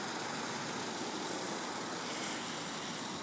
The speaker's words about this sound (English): Anyhow, pardon all the exterior noises you may be hearing. There is a fair amount of traffic that goes by here, and I think some gentlemen are watering the poor, yellowing, drying, crunchy grass.